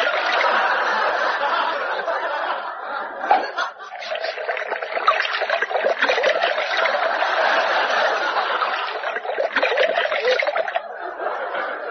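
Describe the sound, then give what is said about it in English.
Tonic water pouring into a glass of gin in one long, unbroken stream, with a fizzy, splashing hiss that runs steadily for several seconds. “Not a gin, no. Just a splash of tonic. You swine, you've drowned it.”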